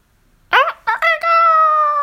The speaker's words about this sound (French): Le chant du coq monta d'une métairie.